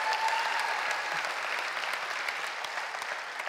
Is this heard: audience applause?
yes